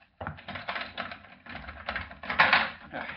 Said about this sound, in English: So unless you want to spend the rest of your days behind bars, you'd better unlock that door and let me out of here.